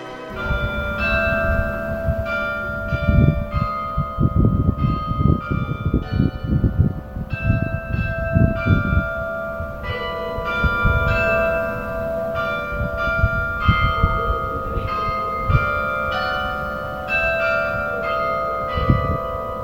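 Church carillon bells ring out the slow Angelus ('Angel of the Lord') melody, which sounds three times a day, struck notes overlapping and sustaining, with a dense low clanging underneath for the first half. Loud, with no voices.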